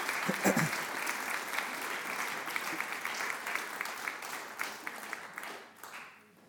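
An audience applauds steadily, a dense wash of many hands clapping at an even, sustained level for several seconds before tapering off at the end.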